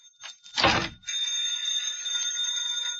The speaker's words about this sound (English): Will you answer the phone, Gracie?